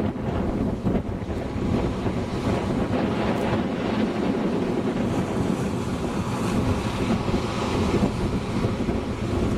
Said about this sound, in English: There is a pretty good wave, but it nudged Kermit but didn't move him.